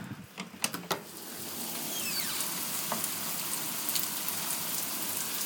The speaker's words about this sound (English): And I went down to make hot chocolate, and I just couldn't believe how loud this rain actually is. We have had a wonderful day today weather-wise. We've got a little thunder now. So I don't know whether you'll hear this.